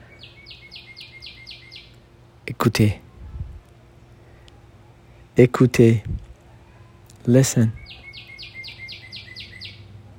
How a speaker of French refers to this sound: Voilà. J'attendais un peu plus pour entendre encore une fois le chant de ces oiseaux.